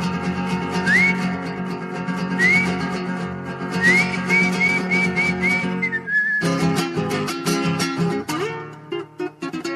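Sharp rising whistles, like a muleteer's whistle driving a herd, cut through over steady instrumental music: one at a time at first, then a quick run of short repeated whistle notes ending in a held tone.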